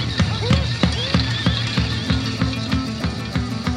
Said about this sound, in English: Oh, there's horses in this one.